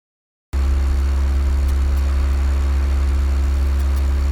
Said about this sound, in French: Hé, vous entendez ce moteur ? Quel plaisir ! C'est le ronronnement d'une voiture entretenue chez Feu Vert.